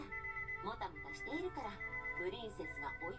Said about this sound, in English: Just then, my bracelet starts beeping.